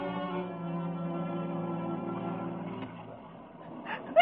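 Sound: sneeze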